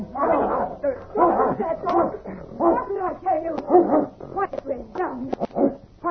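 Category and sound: animal, dog barking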